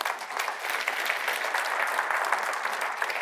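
Steady applause from a crowd applauding what God has done, a dense wash of many hands clapping at once, sustained and fairly loud for the whole stretch without pause or speech.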